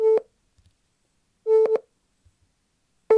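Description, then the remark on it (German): Short electronic test tones from a children's test for reading and spelling difficulty, swelling in loudness at different rates: a steady, mid-pitched buzzy beep in three bursts about a second and a half apart, the middle one doubled, with no voices. “Wir haben da, wie schnell der Ton lauter wird, verändert.”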